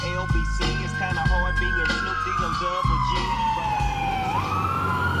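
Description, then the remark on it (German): A wailing emergency siren sweeps slowly down in pitch, then jumps back up, loud over low road rumble, with faint voices mixed underneath. The vehicle comes up from behind a moving car, which pulls aside and slows. “Der kommt von hinten. Fahren wir mal rechts beiseite, links beiseite und bremsen mal etwas.”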